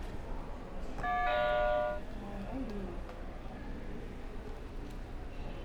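bell ringing

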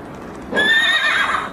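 horse neighing

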